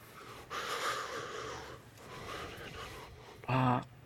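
A woman makes two drawn-out, wet sniffs through a runny nose, fairly loud, followed by a short voiced snort at the end; no talking.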